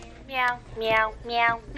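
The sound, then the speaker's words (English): A meowing toy piano plays recorded meow sounds, four bright, falling cat-like tones in quick, even succession, fairly loud with no one talking. “That is a meowing piano.”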